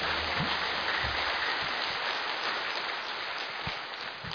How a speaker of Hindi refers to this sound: जोर से तालियां बजाएंगे अपने लिए।